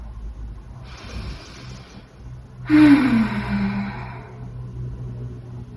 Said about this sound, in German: Genau, lass uns mal zusammen ein bisschen atmen.